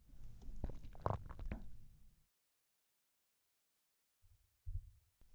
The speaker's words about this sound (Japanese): 心臓の音が全身に響いて、どんどん溶けちゃうね。